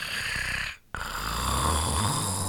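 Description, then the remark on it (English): A tiger snores in its sleep: loud, rasping breaths with a short silent pause between them, then a long, steady rumbling snore with no talking. “Tiger is sleeping.”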